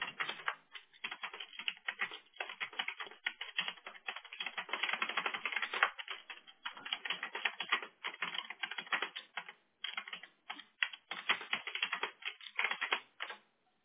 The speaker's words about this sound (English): Yeah, she's just typing back to me.